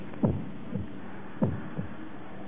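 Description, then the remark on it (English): A heartbeat thumps low and muffled in uneven double beats, the spacing between pulses shifting irregularly, over a faint steady hum with no voices. “Complications, depression, lethargy, heartbeat, arrhythmic.”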